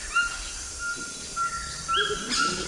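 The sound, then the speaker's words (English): A Cuvier's toucan in the Amazon gives a series of short, yelping calls, repeated several times at moderate volume over a steady, high-pitched hum of insects. No one speaks. “Oh, now we're hearing the call of a Cuvier's toucan.”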